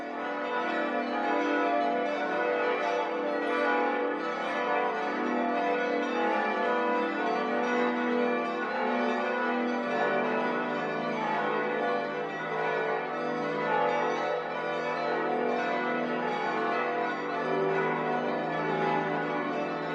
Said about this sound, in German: Glocken läuteten die Weihnacht ein.